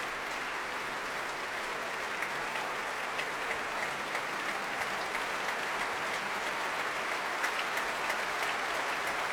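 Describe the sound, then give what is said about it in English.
Sustained applause from a large crowd for an orchestral soloist, with conductor Ivan Fischer and the orchestra members joining in. It is a dense, even patter of many hands clapping at steady loudness throughout, with no voices standing out. “And Ivan Fischer applauding our soloist now, along with all the members of the orchestra.”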